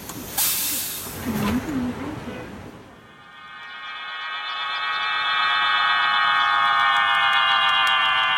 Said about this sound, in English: It's the noise of pigeon whistles.